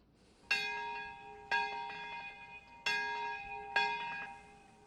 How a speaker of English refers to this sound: Traditional Japanese bells ringing in Nagasaki's Peace Park and all across the nation Thursday, marking the 73rd anniversary of the atomic bombing of that city toward the end of the Second World War.